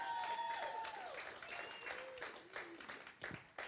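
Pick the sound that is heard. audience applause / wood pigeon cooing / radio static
audience applause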